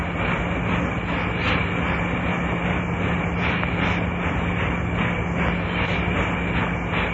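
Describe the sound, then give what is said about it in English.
A freight train rolls past in a steady, loud roar, with rumbling low end, faint rhythmic clatter of wheels and a sustained hum, no voices present. “That is an ocean liner of the prairie.”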